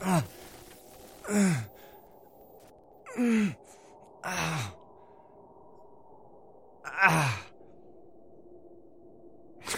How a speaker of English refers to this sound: He's breathing, boss.